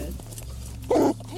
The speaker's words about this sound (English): You hear the officer's police dog barking in the back of the patrol car. And then suddenly, that sound gets closer.